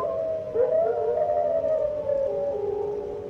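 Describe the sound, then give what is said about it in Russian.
Several wolves howl together in a dark forest, in long, overlapping, wavering notes that slowly rise and fall, sustained for a few seconds over a faint low background rumble, with no voices. “Совсем темно стало в лесу. Где-то волки завыли.”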